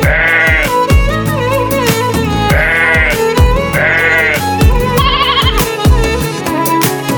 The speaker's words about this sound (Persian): بیا ناز نفست ببعی بخون صدات شبه سپیر خرسه است، نوازش میده به قلبم.